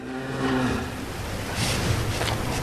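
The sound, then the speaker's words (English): A dairy cow on a farm in Normandy, France, lets out a low, drawn-out moo, followed by steady outdoor rumble and breezy noise with no voices. “These cows eat a lot of green Normandy grass and produce a lot of creamy milk that goes to make cheese that's admired the world over.”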